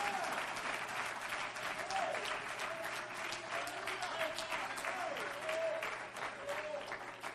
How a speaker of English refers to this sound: If you love him, clap your hands unto him tonight.